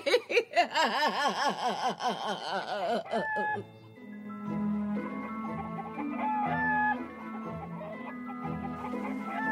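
A rooster and chicken cackle and cluck in loud, rapid, warbling bursts for a few seconds, then the calls give way to steady background music.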